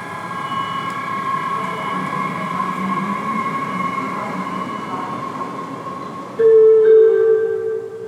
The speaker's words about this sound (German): Meine Damen und Herren, auf Gleis 8 fährt ein Regionalbahn von Dortmund nach Dorsten über Gladbeck Ost. Abfahrt 12.21 Uhr. Nächster Halt Ihres Zuges ist Gelsenkirchen Zoo. Bitte Vorsicht bei der Einfahrt.